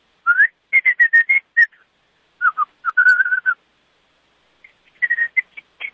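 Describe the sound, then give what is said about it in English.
A man whistles an old song tune over the telephone in short phrases, clear tonal notes rising and falling with brief pauses between bursts, moderately loud with no talking. “What's he whistling?”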